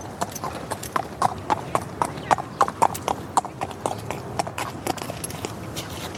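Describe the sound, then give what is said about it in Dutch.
Horse hooves clip-clop in a steady, even rhythm, each sharp knock distinct, with about a dozen strikes over several seconds and nothing else prominent. “Paardenvoeten. Klik, klak, klik, klak, klik.”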